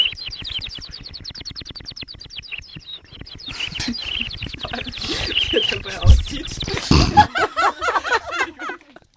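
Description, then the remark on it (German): A person imitates bird chirping by warbling with water in the mouth: a fast, steady run of high trills, then choppier, bubbly tweets and squeaks that grow louder toward the end. “Du kannst zwitschern mit Kaffee im Mund.”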